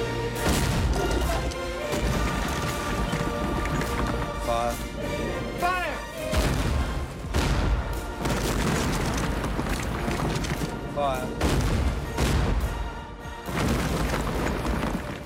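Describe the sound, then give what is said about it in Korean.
Heavy cannon fire from British Navy warships booms again and again over a thick, rumbling roar, with crashing impacts and debris breaking apart as a secret slave fortress in Sierra Leone is destroyed. Loud, with faint shouting voices buried in the barrage. “이어 영국 해군은 군함에 있는 대포로 요새를 파괴한다.”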